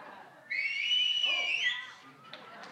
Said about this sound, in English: Who can whistle? Who did that?